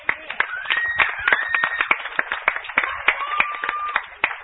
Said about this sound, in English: Give the Lord a cheer on that one.